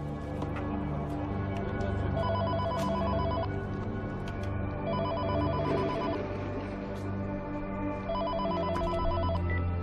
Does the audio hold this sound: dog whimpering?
no